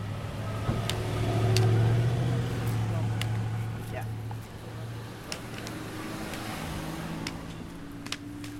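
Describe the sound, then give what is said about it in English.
Car traffic on a street: a low engine drone swells loudly early on and then eases off into a steadier road rumble, with a few sharp clicks and some talking mixed in. “Yeah, let's see where that traffic is.”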